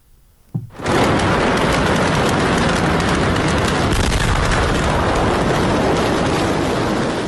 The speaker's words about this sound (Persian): انفجار روز سه‌شنبه در بیروت، پایتخت لبنان، همچنین هزاران زخمی بر جای گذاشته و باعث تخریب ده‌ها واحد مسکونی شده است.